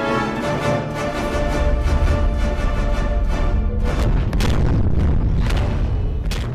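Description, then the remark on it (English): A dense, roaring sci-fi warp drive sequence with booming explosions layered over a sustained rumbling drone, several sharp bursts punching through near the end, loud and continuous with no voices. “Whoa, that sounded like a lot of explosions.”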